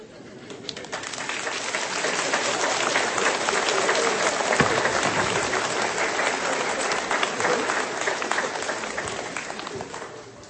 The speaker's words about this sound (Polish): Jakże wam dziękuję za brawa.